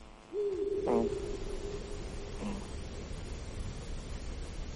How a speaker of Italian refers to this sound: Questo è l'allocco degli Urali, quindi è un verso che possiamo sentire di notte. È il secondo gufo più grande d'Europa, ha un'apertura all'aria di 1,30 m, lo troviamo fra Friuli e Veneto.